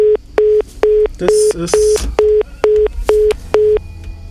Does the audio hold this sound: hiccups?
no